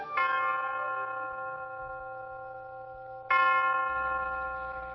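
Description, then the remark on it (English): Two resonant strikes of the University of Detroit tower chimes, one at the start and another about three seconds later, each ringing out with rich sustained overtones that slowly decay, clear with no voices. “The University of Detroit Tower chimes ring in another session of Ask the Professor”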